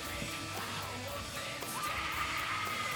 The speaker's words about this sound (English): And get obligatory girls screaming in the background, you know. Wouldn't be a horror without a Scream Queen feature.